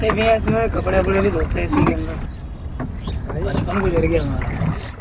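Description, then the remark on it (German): A rowboat moves steadily on the Yamuna River at the last dam before Delhi, a continuous low wash of water and hull noise running beneath people talking throughout. “Zurück auf dem Yamuna sind wir mit unserem Ruderboot am letzten Damm vor Delhi angekommen.”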